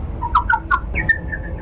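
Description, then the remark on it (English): A few quick, high Indiana bat chirps in close succession, completely unprocessed, followed by a longer drawn-out chirp, all fairly clear over a faint low background rumble. “Here are a couple single chirps.”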